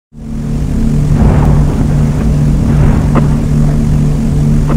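Aircraft engines roar in a loud, steady drone with a deep humming undertone, holding constant for several seconds with faint swells of rushing noise.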